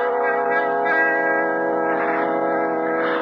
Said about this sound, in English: That is the bell, Conseil.